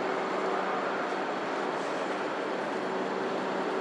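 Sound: train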